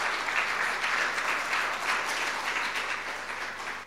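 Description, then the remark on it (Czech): Sustained audience applause, a dense wash of many hands clapping at steady volume throughout, with no voices standing out above it. “Skvělý, zatleskáme.”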